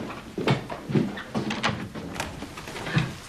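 A door is opened with a series of close, clunky rattles and knocks spread over a few seconds, like a handle and latch being worked before it swings open.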